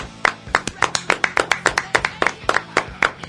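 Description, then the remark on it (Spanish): Rapid, steady hand clapping, around fifteen sharp claps in quick succession with a low hum of background voices underneath. “¡Aplaudí, puto!”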